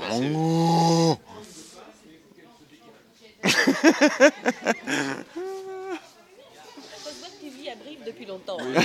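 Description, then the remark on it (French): A Limousin cow lets out a loud, drawn-out moo, then people talk and laugh, with a second shorter, softer lowing call breaking in midway before the chatter resumes. “Les limousines, elles ont quand même un cri particulier.”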